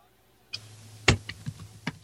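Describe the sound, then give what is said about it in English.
Several crisp computer keyboard clicks tapped out in an irregular rhythm, fairly quiet, with short pauses between keystrokes and no voices. “Please tell me you're not typing that into your search engine.”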